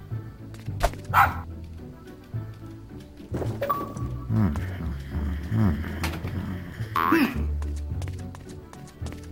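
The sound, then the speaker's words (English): Max, the Grinch's small dog, gives a couple of short, sharp yappy barks, spaced several seconds apart, over a busy bed of playful background music and clunky effects. “To get on with the plot, to move on and explore, little dog Max can help open the door.”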